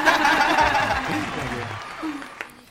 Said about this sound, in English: We have some cheering. Woo! Thank you.